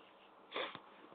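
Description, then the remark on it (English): A single short sneeze, a brief breathy burst of noise that ends in a sharp little snap, heard alone with no one talking, fairly soft overall. “Bless you.”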